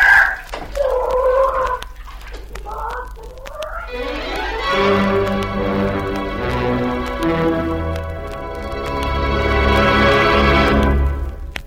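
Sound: rooster crowing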